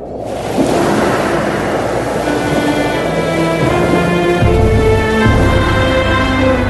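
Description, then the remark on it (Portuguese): A loud, continuous roar of a very strong east wind driving back the sea, steady, with low sustained musical tones swelling beneath it and no voices. “E Deus, o Senhor, com um vento leste muito forte, fez com que o mar recuasse.”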